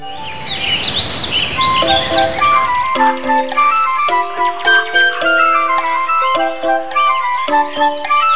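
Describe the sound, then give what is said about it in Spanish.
A bright, busy chorus of birdlike chirps and whistles, opening over a rushing noisy wash and then continuing as layered high tweets with quick ticking accents, loud, no talking. “Los pájaros se marchaban a lugares más cálidos.”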